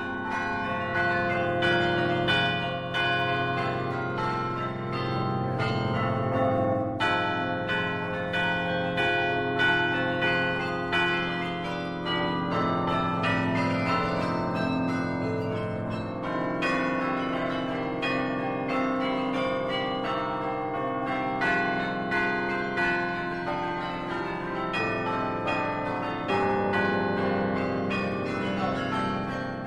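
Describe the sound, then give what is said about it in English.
A carillon of 47 Flemish bells rings out from a 13th-century belfry in Bruges, Belgium, a man pounding the keys; many tuned bells in overlapping melodic runs with a rich, sustained shimmer of ringing tones, loud and steady throughout with no voices. “the bearded man pounding the keys of this Flemish set of 47 bells”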